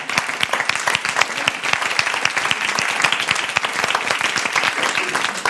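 An audience breaks into sustained applause for a proposal, many hands clapping in a dense, steady patter that holds at an even, fairly loud level throughout without fading.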